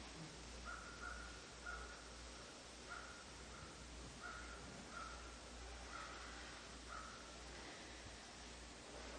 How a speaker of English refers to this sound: And today the meadow feels very quiet. Only the crows keep up their exuberance.